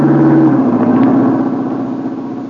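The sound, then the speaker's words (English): A car engine roars, its steady hum shifting downward in pitch as the car drives past along a road and gradually fades. No voices accompany it. “Duck, here comes the car.”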